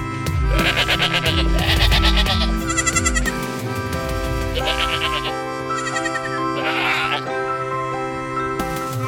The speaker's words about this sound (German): Mecker-Ziege. Da sprach der Bäcker: Das Gemecker geht mir auf den Wecker.